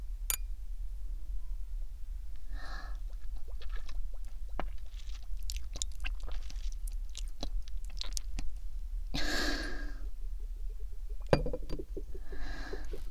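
Glasses clink together in a toast, a scattering of sharp, bright taps over a low steady hum, with a few louder bursts of clatter or rustling and no voices.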